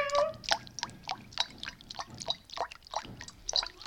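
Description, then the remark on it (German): A kitten laps at water in quick, steady wet smacks, about two or three per second, fairly quiet, with no voices over it. “Da hast du was zu trinken, Kätzchen.”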